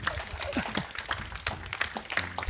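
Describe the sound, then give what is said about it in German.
Audience applause at the start of the show Fisch im Tee: a steady, dense patter of many hands clapping for a couple of seconds, bright and crackly, with a brief voice briefly surfacing near the end. “Danke für den Applaus.”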